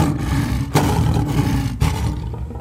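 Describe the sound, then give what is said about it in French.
A lion roars loudly, a deep rumbling growl with sharp surges at the start and again midway, sustained throughout before easing off at the end. “Quand il fut devenu un lion grand et fort, dont le rugissement retentissait à travers toute la savane, il sortit enfin de sa cachette.”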